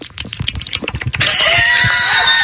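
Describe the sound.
A voice imitates wet mouth noises: a quick run of smacking clicks, then a long, steady, hissing sucking sound with a faint whistle running through it.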